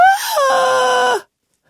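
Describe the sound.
A child lying on the floor, upset at being given only three raisins, lets out a loud, drawn-out howling whine like a baby's wail, rising then holding steady on a strained, tonal pitch for about a second before cutting off, heard alone.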